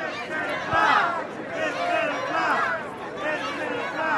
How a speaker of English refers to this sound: The flag ceremony was due to begin at 10 a.m. It ran a little late, and some of the crowd of more than 1,000 grew restless.